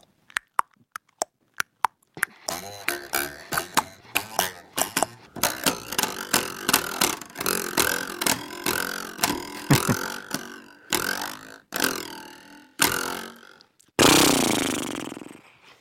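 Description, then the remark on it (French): Percussion played by Jean-Pierre Drouet around a table imitates a horse: a sparse run of clicks gives way to dense clattering taps, like clip-clopping hooves, with rattling and scraping, ending in a loud burst of noisy shaking. “Jean-Pierre Drouet, vous aussi, vous avez le droit de vous exprimer avec vos percussions tout autour de cette table. Si je vous dis le cheval, je sais pas, on peut faire.”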